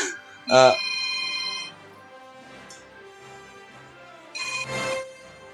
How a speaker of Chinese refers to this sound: 唔好意思，啱啱好明显你听到电话声，我系揿咗暂停出去听咗个电话嘅。